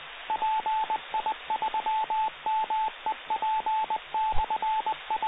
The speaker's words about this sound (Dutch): En dat was de repeater.